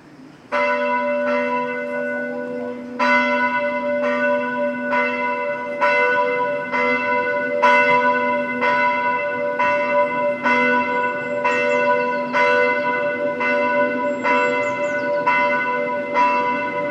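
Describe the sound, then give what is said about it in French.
Church bells in Armenia ring out loudly in a steady sequence of strikes, each clang overlapping the lingering hum of the last, continuing for the whole stretch with no voices. “En Arménie, chaque jour, les cloches des églises sont.”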